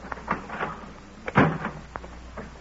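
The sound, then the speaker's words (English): A door is opened: a few light clicks and knocks of the latch, then a louder thump and rattle midway, followed by softer scattered clunks, with no talking. “I'll open the door, will you?”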